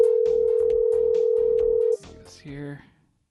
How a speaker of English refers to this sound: All right, the phone's ringing now.